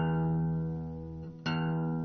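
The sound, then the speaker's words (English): A single guitar note rings out with a steady, bright sustain and rich overtones, dips briefly, then is plucked again and keeps ringing undamped. No one speaks. “You can let the, you can just play the note like this and you can hear it ring.”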